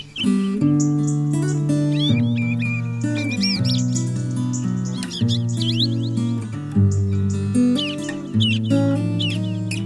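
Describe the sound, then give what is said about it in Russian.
Small birds chirp in quick, bright bursts of tweets layered over steady, full instrumental music, the calls bunching up in short clusters rather than sounding alone. “Вот осень наступила, голод не грозит, и птичек привлекает подсолнух, как магнит.”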